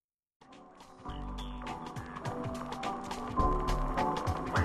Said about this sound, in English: To some people, this music is simply the song from that Cherry Coke commercial.